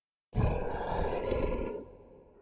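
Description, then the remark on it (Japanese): A monster in the audience seats lets out a single deep, rumbling roar that starts abruptly, holds loud and rough for over a second, then fades away. No one speaks. “やかましく泣いて、早く私を食い殺したいと言っているようだな。”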